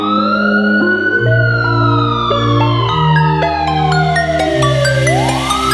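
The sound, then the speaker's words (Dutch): A police siren wails in one long, loud sweep, falling slowly and then rising again, over a steady backing of stepped bass notes and music in a Dutch song, with no voices. “Ik hoor sirenes, ze komen er weer aan.”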